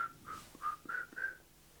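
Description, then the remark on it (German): A person whistles a quick series of five short, clear notes at a fairly steady pitch, moderately loud, with no talking. “Also nicht blasen, es gehört pfeifen ist ja ein Blasen.”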